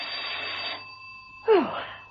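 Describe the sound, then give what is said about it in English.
A doorbell rings in two bursts: a buzzy, metallic ring lasting under a second, a short pause, then a second, louder ring, all over a faint steady hum. “Peel was taking a quiet rest, her feet up and a harmless novel on her lap, when the doorbell rang.”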